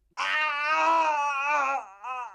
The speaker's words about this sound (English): It was the cry of a person at the moment of death.